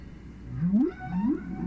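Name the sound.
whale song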